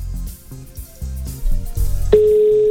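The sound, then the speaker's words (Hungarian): A steady electronic FaceTime video call ringing tone sounds on a phone, starting suddenly near the end and holding at an even pitch, following a stretch of low, pulsing murmur with no clear speech. “Itt nekem már közben csörög a telefonom, meg az óra meg rezeg, mert az most le van némítva.”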